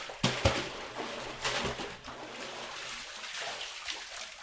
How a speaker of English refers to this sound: Thousands of miles away, a man pulls water out of a deep well in the mountains of Mongolia's Gobi Desert region.